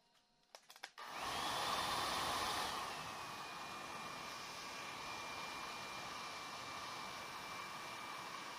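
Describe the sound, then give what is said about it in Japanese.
A hair dryer switches on after a few brief clicks and keeps blowing as hair is dried, with a steady whooshing roar and a faint high motor whine, slightly louder at first before settling. “ドライヤーは上から下にですよ。”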